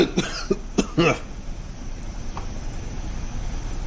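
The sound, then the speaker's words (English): A violent sneeze bursts out as a quick run of harsh, loud, throaty blasts in the first second, then gives way to a low, steady background rumble with no talking. “Somebody just had a violent sneeze.”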